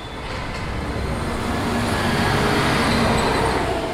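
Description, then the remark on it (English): Buses rumble and rev as they pull out of the central bus station, recorded at 10 p.m. from a living room window directly across from one of the bus exits. The steady engine roar swells slightly over a few seconds, with no voices. “This is a recording from his living room window at 10 p.m.”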